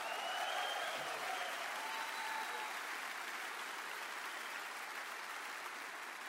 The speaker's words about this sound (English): Come on, let's clap our hands to Jesus.